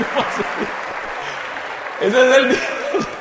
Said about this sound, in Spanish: ¿Ustedes por qué aplauden?